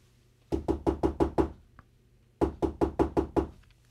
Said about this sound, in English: More knocking at the door.